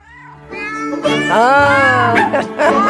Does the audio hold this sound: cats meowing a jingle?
yes